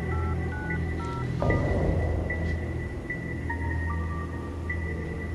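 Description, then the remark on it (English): A series of touch-tone keypad beeps plays as the code 95731, *6 is dialed on a phone after getting a tone, the short electronic tones stepping through different pitches over a steady line hum, with no voices. “Did you get a tone? Yeah, I've got a tone. Hit 95731, *6.”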